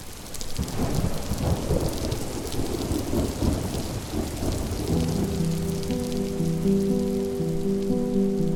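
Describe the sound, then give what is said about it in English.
A heavy midsummer rainstorm on the banks of the river where the Missouri meets the Kaw hisses steadily while deep rumbles of thunder roll underneath. Midway through, low sustained tones swell in beneath the downpour, which stays loud and constant throughout. “When they arrived, it was midsummer, and they were dropped off on the banks of the river in the middle of a heavy rainstorm and discovered that they had no land.”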